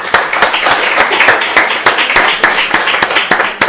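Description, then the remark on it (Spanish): A room full of people applauds, dense overlapping hand claps at a steady loud level throughout, with no voices coming through. “Un aplauso.”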